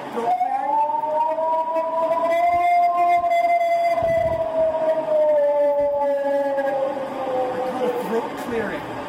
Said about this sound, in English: Actually gets more distressing the more I hear it. That howl, there was a, I believe it was the Ohio, is it Ohio? What was the other, Ohio Bigfoot howls?